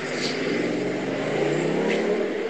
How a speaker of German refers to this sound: Jetzt sind wir auf einer großen Kreuzung, 1 Million Autos.